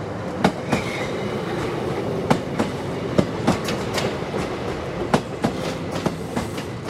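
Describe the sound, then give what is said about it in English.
The Lucknow Express passenger train moving out of a station at low speed, a steady rumble broken by sharp, irregular wheel clacks over the rail joints, fairly loud, with no voices. “The Lucknow Express was just moving out.”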